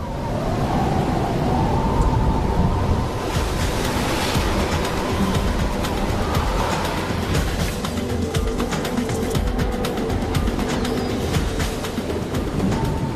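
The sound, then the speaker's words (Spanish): A loud, steady roar of stormy sea waves crashing and churning during a storm, filling the whole recording without pause, with surging bursts of spray and no voices. “Golpeada con fuerza por el mar embravecido, la tortuga espera que su refugio flotante soporte la tormenta.”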